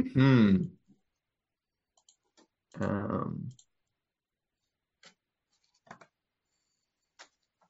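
Two dice are rolled and clatter on a hard surface, a few sharp, scattered clicks spread over a couple of seconds. Two short bursts of voice come first.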